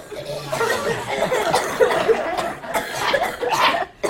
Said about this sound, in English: Yeah, if anybody else needs to cough, now's the time.